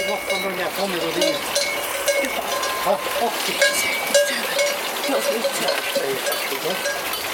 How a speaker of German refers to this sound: Zur Golseralm sind einige Ziegen von den Bergen heruntergekommen und lassen sich von Anneliese liebkosen.